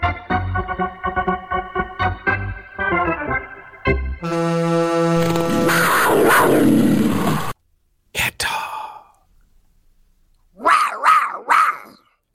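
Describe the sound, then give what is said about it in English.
A person imitates a cat's roar with short, loud, raspy growling bursts near the end, following a stretch of harmonic tones and a long noisy roar-like passage. “are you a cat or is that a dog? No, that was a cat.”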